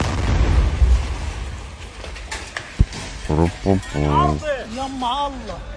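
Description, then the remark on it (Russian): A heavy, rumbling explosion from an Israeli airstrike on a building in the Al-Bureij refugee camp in the central Gaza Strip, in the morning, booms at the start, followed a moment later by a single sharp crack, then voices shouting and calling out in alarm. “Кадры израильского авиаудара сегодня утром по зданию в лагере беженцев Аль-Бурейдж в центральной части сектора Газа публикует кто-то.”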